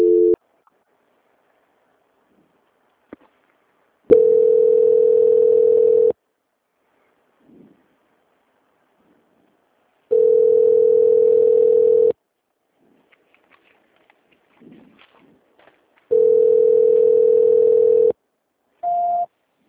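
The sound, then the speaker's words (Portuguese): A telephone transfer tone, as a call is transferred to quality control, sounds as a steady mid-pitched beep about two seconds long, repeating three times with long silent gaps, then a brief higher beep at the end. No one speaks. “Transferência.”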